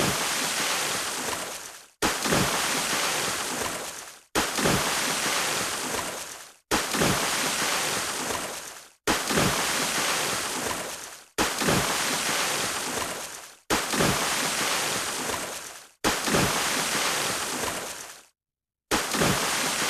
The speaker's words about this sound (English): So let's jump into the splashes here. Here we go.